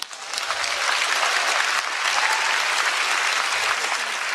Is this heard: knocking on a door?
no